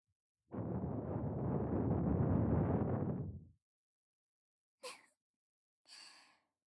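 A long, soft breath blown into the listener's ear, a breathy rush lasting about three seconds, followed by two short, quieter exhales. No talking.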